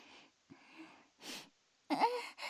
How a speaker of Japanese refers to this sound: どうしました？息切れ？すいません、少し出かけてて。